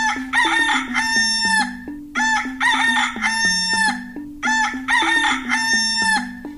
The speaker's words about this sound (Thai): บอกว่าไก่ขันเหรอพี่วานถูกต้องแล้วล่ะค่ะไก่ที่ขันเสียงดังๆเอ๊กอีเอ๊กเอ๊กเนี่ยคือเจ้าไก่ตัวผู้แต่ถ้าเป็นเจ้าไก่ตัวเมียแล้วก็มันจะร้องกระตักกระตักกระตัก